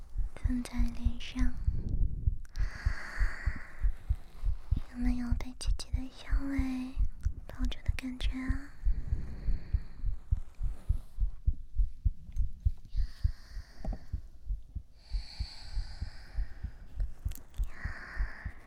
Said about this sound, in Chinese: 姐姐这样抱着，舒服吗？一边是心跳，一边是姐姐的呼吸。